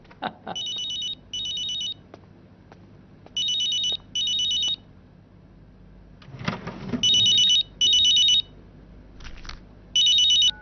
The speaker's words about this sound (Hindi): मामू मामू, अरे अम्मी अपना मोबाइल भूल गईं, उनके फोन की घंटी बज रही है।